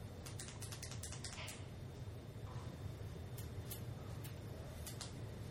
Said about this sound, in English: Oh my gosh, can you stop clicking your pens, please? Sorry. I can't.